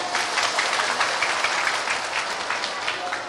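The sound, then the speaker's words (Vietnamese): A crowd breaks into steady, dense applause as a girl student is invited up to speak, many hands clapping together in a continuous crackling wash that holds an even loudness throughout. “Chúng ta cho một tràng vỗ tay.”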